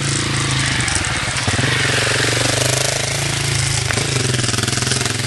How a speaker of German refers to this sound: Und da kommt ein Motorrad.